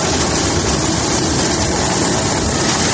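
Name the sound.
rescue helicopter flying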